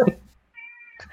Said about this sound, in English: Do you hear this cat? Yeah. Oh yeah.